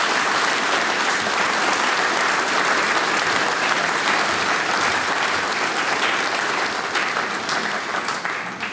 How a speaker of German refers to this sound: Und ich denke, die …, so eine junge Partie, hat sie auch noch einen kräftigen Applaus verdient. Wunderbar, Dankeschön.